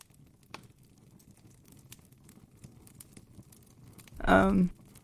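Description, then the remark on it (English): Faint, irregular campfire crackling ticks and pops over a low, steady hiss in still, windless surroundings, then a short, loud voiced burst near the end. “Your fire is the only thing crackling, making noise, bringing any semblance of life to this area.”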